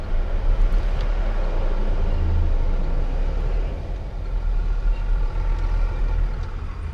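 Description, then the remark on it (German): A car rumbles steadily downward through an enclosed parking garage with space for 800 cars, descending all seven levels to get out; its engine drone and low reverberant roar fill the space, with faint tire squeaks echoing off concrete walls. “Also wir haben Platz für 800 Autos, liest man in dieser Museum Garage, und jetzt müssen wir alle 7 Etagen wieder runter, um ja wieder rauszukommen.”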